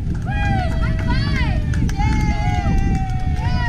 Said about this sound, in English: Buses roll up one by one. First graders flood out of the buses into the gymnasium. They're greeted by cheering mascots from their schools and a crowd of Rotarians and other volunteers.